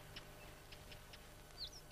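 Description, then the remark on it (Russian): Faint birds sing in short, scattered chirps, with a couple of brighter sweeping tweets near the end, over a quiet low hum and no voices. “Птицы запели.”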